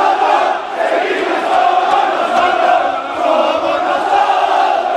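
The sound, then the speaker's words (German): A large crowd of FC Sevilla fans jeers their team as it comes to the fans' stand after a 0:4 defeat to Manchester City, with a loud, sustained wall of booing and shrill whistling that swells and dips slightly but never lets up across the few seconds. “Die Mannschaft kommt in die Kurve und wird ausgepfiffen und niedergebuht.”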